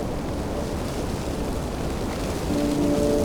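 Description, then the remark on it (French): Steady, rumbling winter wind blows through frozen tree branches, making a completely frozen branch vibrate, fairly loud, and a thin humming vibration rises near the end. No one speaks. “Le vent qui fait vibrer la ramure”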